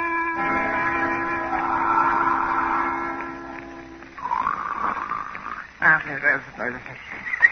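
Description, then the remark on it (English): Loud, exaggerated snoring from a sleeping man, seemingly voiced by a performer: a long raspy, droning inhale followed by sputtering, wheezy, gurgling exhales, with no words spoken. “What do you know? Sound asleep. What a sound. Like a giraffe swallowing a roll of sandpaper.”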